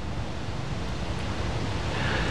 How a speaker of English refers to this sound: The sound of water lapping at the glass.